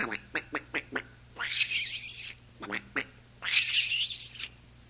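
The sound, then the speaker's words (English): A voice imitates a duck, giving a quick run of short quacks, then a longer raspy squawk, repeated twice in the same pattern, fairly loud. “Ducks.”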